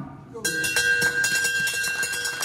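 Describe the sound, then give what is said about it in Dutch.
A stock exchange bell rings for the January 2011 stock market listing of the stainless steel company Aperam, with a bright, sustained metallic tone starting abruptly, accompanied by a rattling, rapidly repeating clatter and a crowd's murmur in the background. “Hé, dat is geen gong. Nee, dat klopt inderdaad. Ik veronderstel dat dit op de Belgische beurs is in Brussel.”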